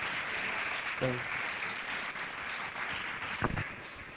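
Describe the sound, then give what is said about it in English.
A group breaks into steady applause for a woman who answered a question about what a foundation is, a dense crackle of many hands clapping for several seconds, with a brief voiced whoop early on and a sharper clap burst near the end. “Clap for her, guys. Big hand.”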